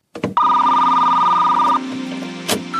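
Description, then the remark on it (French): A telephone line for leaving announcements rings once with a loud, steady electronic tone lasting over a second, then fades into a softer lingering hum, with no voices. “On a un petit téléphone où on peut nous laisser des annonces.”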